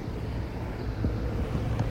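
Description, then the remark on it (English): An orange motor launch runs along the shore by a quayside, its engine droning steadily in a low continuous rumble mixed with gusty wind noise and no voices. “I've just seen that the orange launch at the side of the Nannel has left the boat. It's just run along the shore to find out where it's coming to land.”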